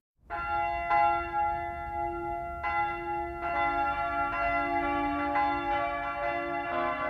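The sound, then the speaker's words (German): Several large bells of Würzburg Cathedral, with its two towers, peal together on a Saturday morning in Würzburg's city centre, a rich, sustained ringing, new strikes layering over the lingering hum every second or so, resonant and fairly loud with no voices. “Der mächtige Dom mit seinen zwei markanten Türmen läutet.”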